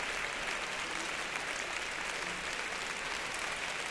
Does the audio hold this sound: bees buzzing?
no